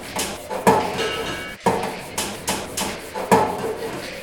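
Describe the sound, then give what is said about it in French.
Pots and pans being struck with forks at a party, giving a series of ringing metallic clangs in an uneven rhythm, loud against a noisy background. “Écoutez le chant des casseroles.”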